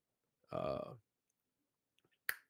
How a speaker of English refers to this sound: How's that? I love that. Every time I snap my fingers, you know that Crip Mac.